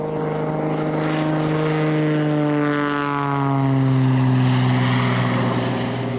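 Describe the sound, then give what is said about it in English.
A propeller airplane drones past, flying to reach the Shenjek River country in the Arctic wilderness of the Brooks Range, north of Fort Yukon and the Arctic Circle; its steady engine hum holds a strong harmonic tone that slowly drops in pitch as it swells louder then begins to fade. No voices. “To reach such far places, it is necessary nowadays to take to the air.”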